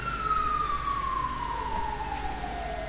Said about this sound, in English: It's always a worry when you hear those sirens, isn't it? I often sit in my office and just take a few moments just to pray for whoever that ambulance is going to.